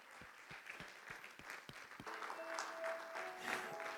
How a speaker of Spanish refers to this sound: Denle una gloria a Dios y un aplauso al Señor, claro que sí.